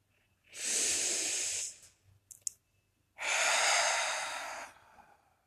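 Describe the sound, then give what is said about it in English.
Two slow, deep breaths, a long airy inhale and then a fuller exhale, each lasting over a second, separated by a short pause with a faint click. No one speaks. “I am breathing.”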